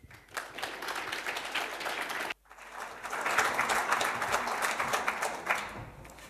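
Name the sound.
warm audience applause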